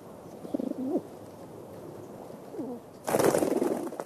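Soft, throaty pigeon coos come in short repeated phrases, followed near the end by a sudden burst of flapping wings.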